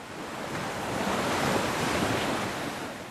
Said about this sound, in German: machte einen Strandspaziergang, genoss den beruhigenden Klang der Wellen.